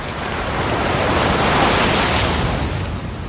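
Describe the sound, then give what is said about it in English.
A steady wash of surf rolls in, swelling to a broad rushing peak midway and then easing back, like a wave breaking and spreading across the sand. No voices. “The real life Cleo actually saved my sister and myself from the waves, and she doesn't know how to swim.”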